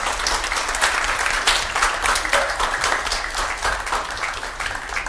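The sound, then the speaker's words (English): A church audience applauding steadily to welcome newly confirmed members, a dense wash of many overlapping claps holding at a fairly even loudness throughout, with no voices standing out. “I invite the families to return to your seats and the confirmants to stand and face the congregation as they welcome you with a little applause into the fullness of your membership in the body of Christ.”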